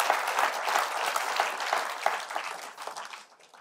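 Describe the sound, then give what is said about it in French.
A crowd applauds in advance what God can do in their lives, with dense, steady clapping that holds for a few seconds and then thins out and fades toward the end. “Est-ce qu'on peut applaudir d'avance ce que Dieu peut faire dans nos vies?”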